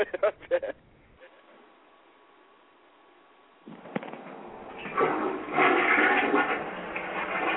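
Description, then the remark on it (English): A toilet flushes for the second time: after brief voices and a quiet stretch with a faint steady hum, a click leads into a loud, broad rush of swirling water that keeps going to the end. “And there it is. Flushing twice.”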